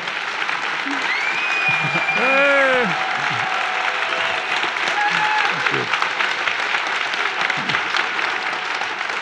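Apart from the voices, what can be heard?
audience applause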